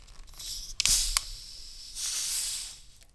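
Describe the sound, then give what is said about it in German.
A cherry cola can is cracked open: a sharp click and brief fizzing hiss, followed by a second, longer but fairly soft airy hiss. No one speaks. “Naja, habe schon mal befriedigendere Zischgeräusche gehört.”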